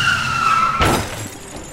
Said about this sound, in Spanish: El conductor que está transitando con su auto delante del nuestro frena de golpe. Nosotros que venimos atrás frenamos, pero aún así chocamos con la parte trasera de aquel auto.